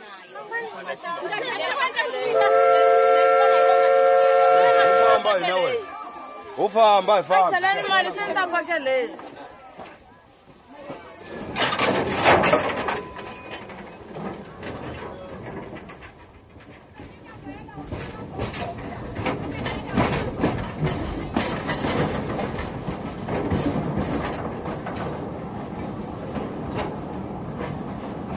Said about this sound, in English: I've got sounds of trains, steam trains, running through the Mozambican bush.